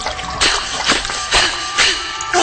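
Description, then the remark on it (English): Footsteps splash steadily through shallow sewer water, about five wet sloshes at an even walking pace, fairly loud, with a constant murky wash of water beneath them and no talking. “I don't even want to know what's floating in this water.”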